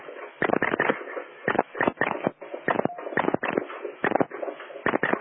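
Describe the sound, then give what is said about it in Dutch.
Typewriter typing: quick bursts of clattering keystrokes, irregular in rhythm with short pauses between flurries, fairly loud and with no voices. “De typemachine.”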